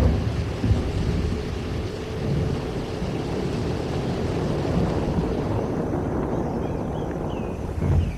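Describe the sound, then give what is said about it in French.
A thunderstorm with deep, continuous rolling thunder, a heavy low rumble that swells slightly at the start and end, with wind and rain hissing underneath and no voices. “un jour, un orage terrible met le feu à une partie de la forêt.”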